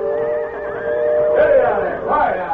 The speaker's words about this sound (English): Train whistle scare horses. Those horses are too nervous to be hitched to a buckboard.